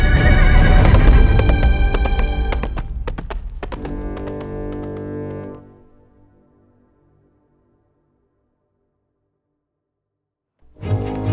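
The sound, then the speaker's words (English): A loud horse whinny from Hannibal, a horse taken from a stable, rings out over a few sharp hoof clops, then fades into several seconds of silence before a brief burst of sound returns at the end. “Using the thick smoke as a cover, I managed to escape back into the stable where I borrowed one of Billingsgate's horses.”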